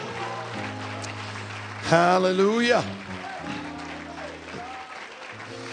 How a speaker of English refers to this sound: Let's give the Lord another hand clap of worship tonight.